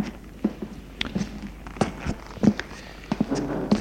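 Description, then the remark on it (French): A series of footsteps in a hallway, sharp irregular taps at a walking pace, moderately loud, with no talking over them. “Tout à coup, il entend des pas dans le couloir.”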